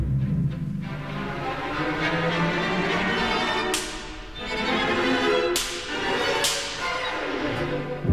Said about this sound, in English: The whip.